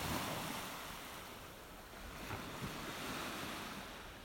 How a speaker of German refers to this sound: Weil es gibt ja genug arme Menschen, die jetzt nicht am Meer sein können und die sollen zumindest ein bisschen die Wellen hören können.